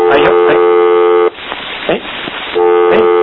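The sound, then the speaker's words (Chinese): A steady, buzzing phone line tone plays loudly on a caller's phone line, breaks off into a stretch of hiss with faint voice-like sounds, then resumes just as before; the caller has hung up. “挂掉了哈。这电话相亲可能你那个电脑卡入来哈”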